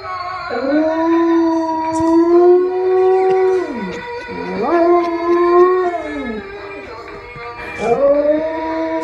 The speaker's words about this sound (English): and found out that his dog will sing along with the toy. That's a big dog, right? Yeah, it's a pit mix.